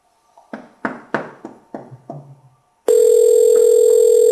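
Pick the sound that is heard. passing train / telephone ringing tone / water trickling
telephone ringing tone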